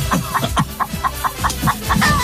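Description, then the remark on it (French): Chickens cluck in a steady, rapid series of short, clipped calls, about ten in a couple of seconds, fairly loud with no talking. “Sortez les poulets !”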